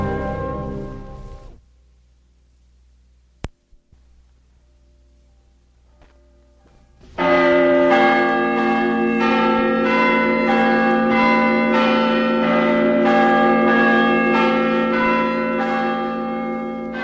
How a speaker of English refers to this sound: The capital of Washington, bells tolled the news that Lincoln the president was no more.